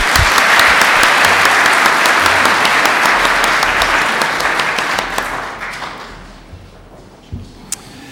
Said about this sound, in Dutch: Goed. Nogmaals een applaus, hè?